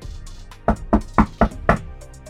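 Five firm knocks on an apartment door in a steady, evenly spaced rhythm, fairly loud, with no voices in between.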